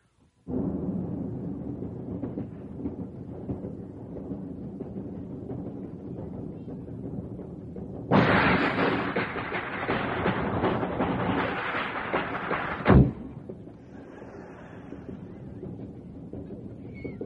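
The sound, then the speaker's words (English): A moving train's steady low rumble suddenly swells into a loud, hissing roar of wind and rattling wheels for several seconds while passing between cars, then a heavy thud cuts it back to the muffled rumble. “Now let's pass between the cars on the train from one car to the other car while the train's moving.”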